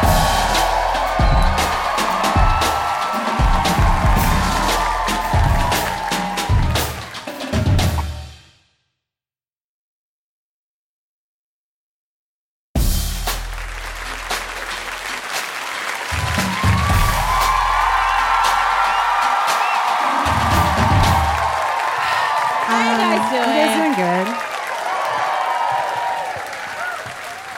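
A large comedy show crowd claps and cheers loudly for a comedian, with whoops rising above the applause. The noise cuts to a few seconds of silence midway, then the clapping and shouting resume.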